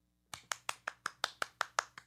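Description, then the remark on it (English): Brief applause made of about ten crisp, evenly spaced claps, apparently from one pair of hands, steady, with no voices. “It was an applause.”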